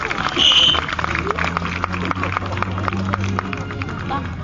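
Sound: farewell applause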